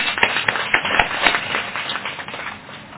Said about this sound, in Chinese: 喺今年七月一日嘅政府授勳名單裏邊咧，係榮獲頒授呢個 MH 榮譽勳章嘅啊，我哋再鼓掌一次。